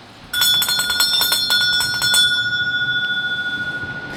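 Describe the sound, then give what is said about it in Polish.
A small bell rings out sharply with a quick flurry of bright strikes, then its clear tone lingers and slowly fades with a gentle shimmer. No one speaks. “a teraz, jeżeli usłyszę dzwoneczek, to zaproponuję Państwu coś do przemyślenia i to znowu bardzo aktualnego.”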